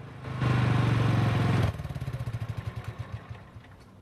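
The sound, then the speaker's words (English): A ride-on mower's small engine roars steadily at high revs on a quiet road, then abruptly drops off and chugs with slowing, evenly spaced pulses that fade as the motor winds down to a stop alongside a silver fuel pump in front of a bar. “Alvin steers his mower round a bend in a quiet road, decelerates and draws up alongside a silver fuel pump.”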